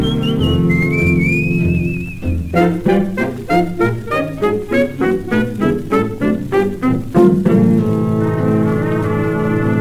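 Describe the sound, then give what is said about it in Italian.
A person whistles a melody in clear, sustained tones, first with a few sliding notes, then a quicker run of short, bouncy notes over steady background music, before settling into longer held tones. “Da solo me vo cantando così la la la la la la la la fischiando così.”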